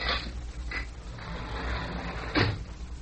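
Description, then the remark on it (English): A door creaks and clunks open as guards come inside, with a few short knocks and scrapes followed by a louder thud near the end, over a low rumble. No one speaks. “Hey, they're coming inside. I say, what's going on? Maybe they're coming for us already. No, I don't think so. But someone's outside that door.”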